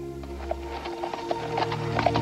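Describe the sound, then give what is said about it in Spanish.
Steady clip-clop of a white horse's hooves at a walking pace as Crassus, in his dress uniform, rides out through a gate in the city wall, followed by Caesar; evenly spaced knocks over a low rumbling background, fairly quiet. “Craso sale sobre su caballo blanco vistiendo su uniforme de gala y seguido por César.”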